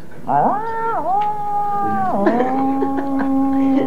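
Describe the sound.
A person imitates a cat's meow, an "ecstasy meow" as done for the Catwoman role, with one long, loud, drawn-out yowl, the pitch dipping and wavering before settling lower and holding steady to the end.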